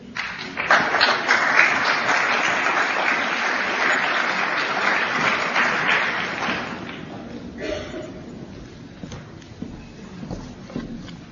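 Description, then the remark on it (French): A crowd applauds with dense, steady clapping that swells early and holds for several seconds, then thins into scattered claps and fades out, welcoming the president of the child-protection association ADAP 13 to speak at a work day. “Je vous propose de l'applaudir.”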